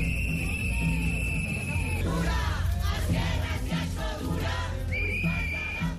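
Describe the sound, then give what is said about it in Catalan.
A loud crowd at a teachers' union (USTEC) strike protest against the government on the first day of the school year chants and shouts together while shrill whistles blow steadily, one long high whistle tone cutting through at the start and again near the end. “però sí hi ha un altre soroll amb el que ha començat avui el curs, és amb el de la vaga de sindicats i les protestes cap al govern.”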